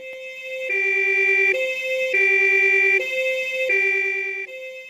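A two-tone ambulance siren alternates steadily between a higher and lower pitch, loud, cycling about three times with no voices present.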